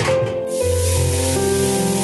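A steady stream of water pours into a pot in a kitchen, filling three pots with water, its hollow ringing tone climbing as the vessel fills. Loud and continuous, with no voices.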